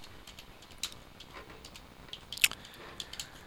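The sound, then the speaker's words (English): Soft, irregular mouth sounds of someone chewing a muffin: faint moist clicks and smacks, with one sharper crunchy bite partway through, and no talking. “Well, the pastor brought me a muffin.”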